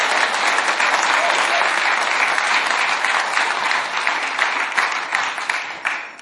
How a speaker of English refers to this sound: Why don't we just give the Lord a clap offering, because he's a good God.